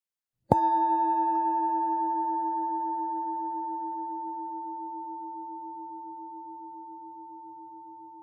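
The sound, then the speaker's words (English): A single meditation bell is struck once to open a loving-kindness meditation practice, its warm, steady tone with clear overtones lingering and fading very slowly over several seconds, with no voices or other sounds. “This practice both begins and closes with the ringing of a bell.”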